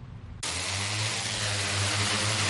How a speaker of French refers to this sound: Des drones comme celui-ci pulvérisent une solution de silicium au-dessus de l'eau stagnante, formant une fine couche qui empêchera éventuellement les œufs de moustiques d'éclore.